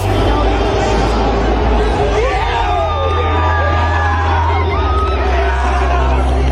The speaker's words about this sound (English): Check out all the onlookers cheering on Danny's yes. You go, boy.